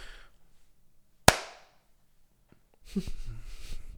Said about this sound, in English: What, the clap? Yeah. Sorry. Just makes sense.